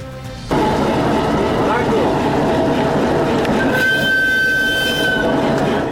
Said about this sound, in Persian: برای اولین بار یک قطار اموال تجارتی از چین به حیرتان رسید.